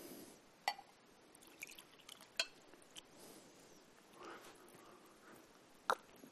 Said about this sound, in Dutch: Even een beetje water drinken.